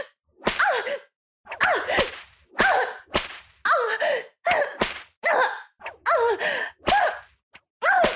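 Sharp whip lashes strike repeatedly, about one per second, close and loud, each followed by a strained, pained vocal cry or gasp.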